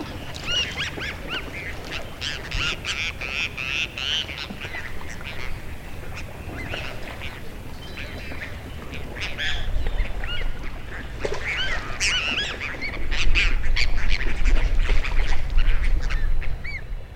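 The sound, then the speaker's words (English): Goldeneye ducks call out on a lake in a steady, overlapping chorus of short nasal notes, while a low rumble of highway traffic underneath swells louder toward the end. “But there are golden-eyed ducks, males with dark white patch on the head, and both sexes with brilliant golden eyes.”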